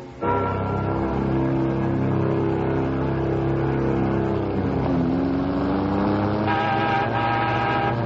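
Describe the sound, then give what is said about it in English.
A sports car engine roars steadily for about eight seconds, its pitch dipping briefly halfway through, as if shifting gear, before climbing again in a loud revving whine. No one speaks. “Hey, where'd you get that sports car?”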